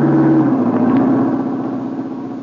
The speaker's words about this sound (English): Duck, here comes the car.